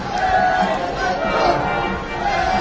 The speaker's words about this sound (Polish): Tłum skanduje Benedetto, niech żyje papież.